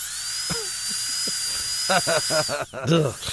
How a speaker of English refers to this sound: The eerie sound of the dentist drill, Jeremy, could be a thing of the past.